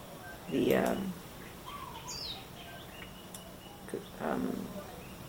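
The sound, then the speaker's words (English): A bird calls outdoors, two louder harsh calls a few seconds apart with fainter chirps in between, over a steady background hum. “What's that bird?”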